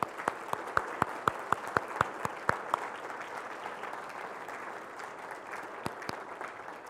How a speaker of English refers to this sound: These women are here because they honor and they worship the God of heaven, and they should be applauded and appreciated. Let's give them a round of applause for that.